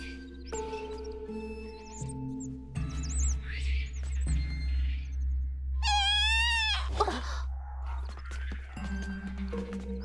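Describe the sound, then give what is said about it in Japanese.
A chick of a bird monster, a kind said to sing well, calls with high, squeaky chirps, building to a loud, wavering bleat-like cry over a steady low background hum. “ミングフェーリーのヒナだ。歌がうまいって言われる鳥の魔物だよ。”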